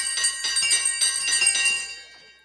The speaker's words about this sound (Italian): si accorse che il campanello della stanza, quello usato per chiamare la servitù in tempi andati, tintinnava. Prima piano, poi sempre più forte. E non solo quello. Tutti i campanelli delle stanze trillavano.